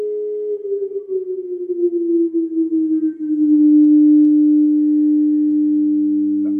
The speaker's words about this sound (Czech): Prosím pozor, je vyhlášen požární poplach. No, opravdu máme požární poplach.